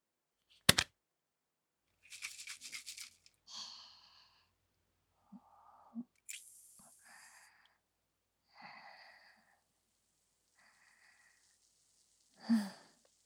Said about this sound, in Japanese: さて、このスプレー何でしょう。今中身を出してあげるわね。